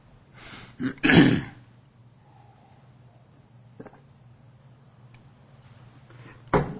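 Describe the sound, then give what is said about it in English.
A person clears their throat and coughs loudly, a short rough burst near the start followed by quiet, then another sharp cough at the end, with no talking. “Excuse me, but I ran out of cough drops a couple of weeks ago.”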